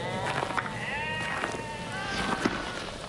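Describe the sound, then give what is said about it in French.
A flock of about thirty sheep, lying resting on hot ground, bleating, several wavering calls overlapping one another almost continuously, with no voices. “Une trentaine de moutons, couchés sur la terre brûlante, se reposaient près de lui.”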